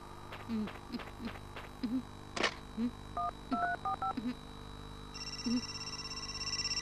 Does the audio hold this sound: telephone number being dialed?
yes